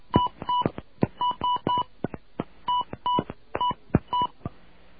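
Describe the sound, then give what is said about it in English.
A rapid series of touch-tone keypad beeps as a 10-digit phone number is keyed into an automated phone system, short dual-tone bleeps in quick, slightly uneven succession, clear with no talking. “All right, I'm going to key in this phone number here.”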